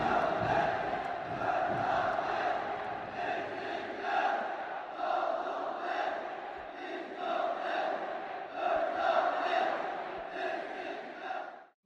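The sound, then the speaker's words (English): A large crowd chants in unison, loud and sustained, with rhythmic pulses of coordinated cheering repeating steadily for about twelve seconds before cutting off abruptly. “But watching him, those perfectly coordinated cheers began to sound so sinister.”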